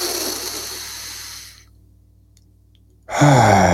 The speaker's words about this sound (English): If you can just feel your belly expand, and in 3 seconds, we're going to take a big, deep inhale through the nose, nice and slow, in 3, 2, 1.